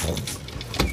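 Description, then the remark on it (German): A low, steady mechanical rumble like a large roller beginning to turn in the background after a ring is placed into the fixture of an apothecary cabinet, with short grinding, whirring bursts rising over it and a louder surge near the end. “Ihr hört ein und im Hintergrund fängt an, wie eine größere Walze sich zu drehen.”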